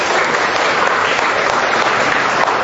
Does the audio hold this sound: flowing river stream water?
no